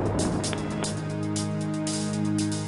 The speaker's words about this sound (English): 3, 2, 1, engine start and liftoff of the Delta II rocket carrying the Spirit from Earth to planet Mars.